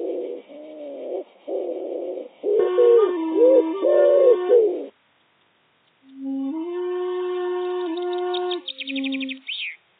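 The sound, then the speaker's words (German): Wild doves coo in low, hollow, drawn-out phrases, one run of short repeated coos followed by a longer steady call, with faint higher chirps near the end. “Hier gurrten die Wildtauben.”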